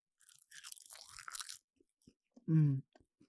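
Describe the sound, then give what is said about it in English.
Crisp, crackly crunching of a seaweed snack for about a second, followed by a few faint clicks and a short, loud hummed 'mm' of appreciation. “I'm eating some seaweed. One of my favorite snacks.”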